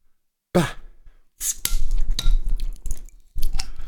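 A Berliner Kindl Jubiläumspilsener beer bottle being opened: a sharp burst with a falling hiss, followed by a string of clicks, clinks and fizzy rustling bursts, with no one speaking.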